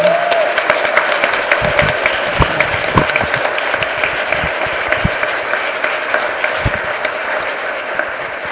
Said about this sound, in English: So I want to ask you to give a round of applause for our speakers.